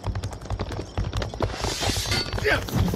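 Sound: horse hooves clip-clopping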